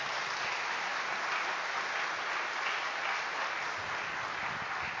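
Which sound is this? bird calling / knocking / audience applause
audience applause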